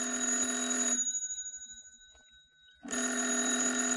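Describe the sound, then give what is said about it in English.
A loud telephone bell rings in two bursts with a brief pause between them, the bright metallic jangle stopping for a couple of seconds before ringing again. “The phone. It's ringing.”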